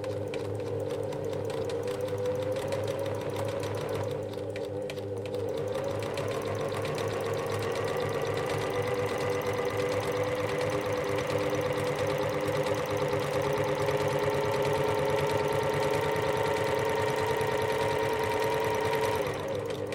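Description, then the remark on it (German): A sewing machine, an older one with oil underneath that is not centrally lubricated, runs steadily for the whole stretch, its motor giving a continuous mechanical hum and rapid rhythmic clatter, fairly loud with no talking. “Wenn sie an der Nähmaschine hockt, glänzen ihre Augen.”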